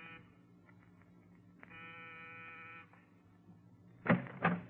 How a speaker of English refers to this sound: On the afternoon of your arrival in New York, you walk down the corridor of an apartment building in the East 70s. Pause. Press a buzzer.